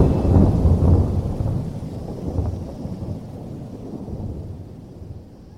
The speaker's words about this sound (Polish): Z oddali zagrzmiał. Zrywający się wicher i szybko czerniejące niebo zwiastowały nadciągającą burzę.